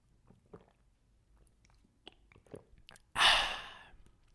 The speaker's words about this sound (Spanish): Déjenme tomo agua porque me estoy como trabando.